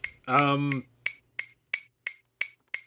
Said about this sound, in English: Stop clicking. I can hear you scrolling your mouse.